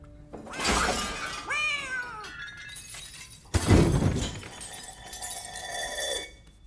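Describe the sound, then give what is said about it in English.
A cat meows a couple of times in wavering cries, followed by a sudden loud crash like something shattering, with clattering noise trailing off afterward. No one speaks. “If I'm in a cat's body, is a cat in my body?”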